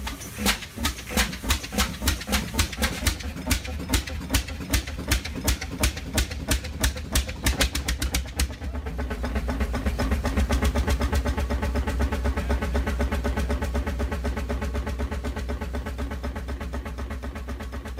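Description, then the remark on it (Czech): A large American Fairbanks stationary engine, originally used to drive a stone crusher in a quarry, is started with compressed air: slow, evenly spaced loud thumps quicken, then it catches and settles into a steady, deep rumbling run, with no talking. “Právě jste slyšeli start a chod amerického motoru Fairbanks, který původně sloužil k pohonu drtiče v kamenolomu.”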